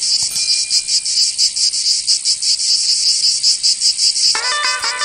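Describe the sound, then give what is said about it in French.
Loud, steady cicadas buzz in a pulsing, high-pitched drone throughout, with a brief musical tone entering near the end; cicadas in the Var department (83) of France. “On est dans le 83 dans le Var, vous entendez les cigales ?”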